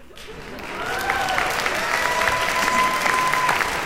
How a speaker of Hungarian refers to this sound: Spontán taps.